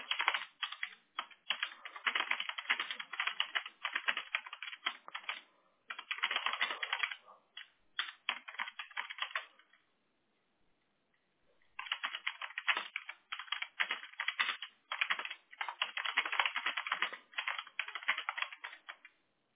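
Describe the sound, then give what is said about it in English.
Rapid, steady clicking of keys on a computer keyboard, moderately loud, in continuous bursts with a brief pause in the middle. No voices are heard. “I'm just typing in everything.”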